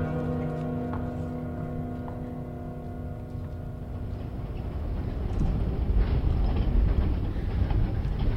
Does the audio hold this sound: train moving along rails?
yes